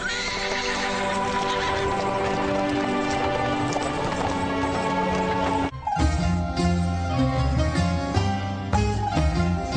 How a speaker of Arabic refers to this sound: هيا امشي أيها الحصان. هيا سر.